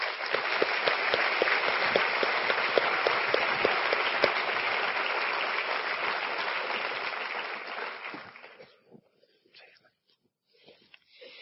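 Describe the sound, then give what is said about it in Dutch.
Warm, encouraging audience applause welcoming a woman about to give a testimony, a dense steady patter of many hands clapping for about eight seconds, then fading away into near silence with a few stray claps. “En zullen we haar ontvangen met een warm, bemoedigend applaus.”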